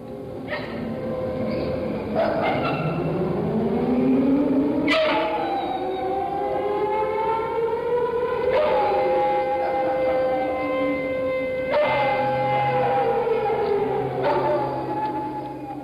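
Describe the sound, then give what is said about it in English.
An air raid drill siren wails continuously, its pitch slowly rising and falling in long sweeps against a busy city background, loud and steady throughout. “Saturday at noon, there's an air raid drill.”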